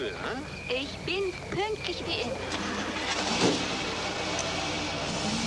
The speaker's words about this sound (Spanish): El coche se aleja conducido por un soldado.